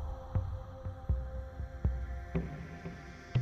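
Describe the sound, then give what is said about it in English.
A deep, steady heartbeat drum thumps in a slow, regular pulse over a low sustained hum, each soft beat muffled, with no voices, played for a heartbeat of the earth meditation. “And I'm guided to bring us into the heartbeat of the earth meditation.”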